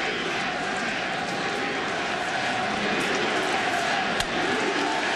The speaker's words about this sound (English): Got a chant of USA as the news goes through the crowd. Again, ABC News is reporting that Osama bin Laden has been killed.